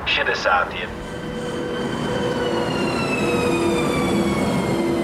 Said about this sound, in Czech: Posloucháte Východočeské výlety, ve kterých dnes cestujeme na trati mezi Pardubicemi a Hradcem Králové. Já jsem právě vystoupil na zastávce Stéblová, která dnes působí klidně a nenápadně.